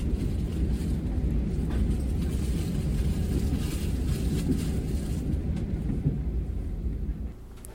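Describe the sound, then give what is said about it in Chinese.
A quiet train cabin rolling along the rails, a steady low rumble and soft hum filling the space with only faint, occasional clicks. No one is talking. “但对我来说，都干几笔，跟我那种对于搭火车有一种乡愁的我来说啊，会觉得差几亏啊，就是这个超安静的，吼，安静到少的那种摇摆啊，那种因为它那个铁轨火车在铁轨上噔噔噔噔那种摇摆的感觉，其实是很有一种特别的 feel 哦。”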